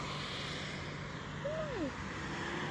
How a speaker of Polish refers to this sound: Możecie sobie posłuchać samochodów, które sobie tam przejeżdżają.